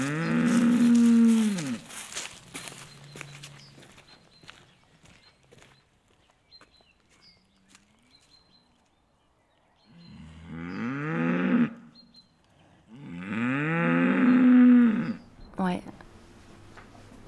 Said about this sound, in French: C'est la Normande, là, qui meugle. Il lui arrive quelque chose ? Elle veut aller voir son veau.